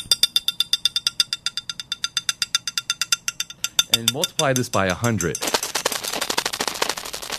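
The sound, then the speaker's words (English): Recording of a sleeping cat's brain activity, played from a cassette on a tape deck in a lecture by Sir John Carew Eccles: a fast, steady train of sharp crackling clicks, several per second, before a man's voice speaks and a rush of hissing static takes over. “This, the professor announced, is the sound of a cat's brain while asleep.”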